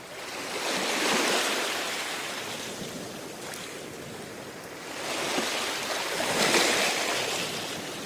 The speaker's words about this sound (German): Lehnen Sie sich mal zurück, schließen Sie die Augen und hören Sie das Meeresrauschen.